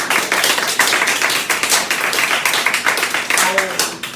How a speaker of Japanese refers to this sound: 拍手をください。